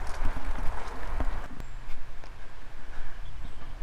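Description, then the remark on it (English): Mountain bikers ride past on a trail, tyres crunching over gravel with scattered clicks and rattles. The noise is loudest at first and eases slightly as they move on. “There's some mountain bikers going past now”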